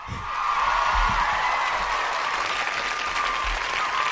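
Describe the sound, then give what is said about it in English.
A crowd applauds steadily, a dense wash of clapping that stays loud and even for several seconds, with no voices rising above it. “A lot of applause”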